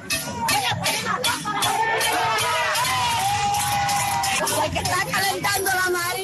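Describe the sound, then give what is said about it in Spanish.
Residents of Campechuela, Granma province, shout and chant together in a loud, continuous roar at a Friday-night cacerolazo demanding restoration of electricity, in a neighbourhood near La Marina, with sharp percussive clangs of pots being struck breaking through the voices at irregular intervals. “Gritan los campechueleros en un video publicado”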